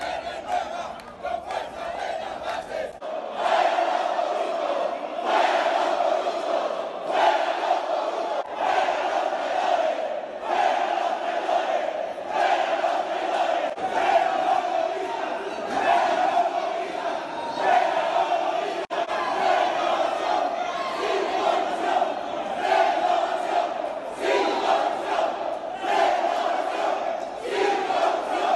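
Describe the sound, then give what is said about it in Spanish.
A large crowd chants protest slogans in unison, shouting "fuera los corruptos" (out with the corrupt), loud and sustained, with rhythmic shouted bursts over a constant roar of many voices, at the Aprista party congress held to elect its new authorities, at the party's historic premises on Alfonso Ugarte. “Al grito de ¡fuera los corruptos!”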